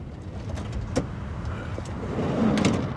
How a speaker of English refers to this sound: The van pulls to a stop outside the Dahlia halfway house.